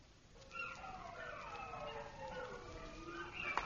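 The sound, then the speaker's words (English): Several wolves howl together at night with the moon up and chill weather, having come unusually close; their long, wavering, overlapping cries rise and fall steadily for a few seconds, with no voices. “Those wolves have come uncommon close, and the moon's up.”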